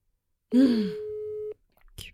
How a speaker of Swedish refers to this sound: Men gud, det ringer ju.